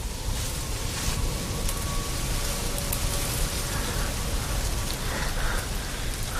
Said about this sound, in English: Ryan flinches, then pushes back rustling stalks of corn as they move in the wind.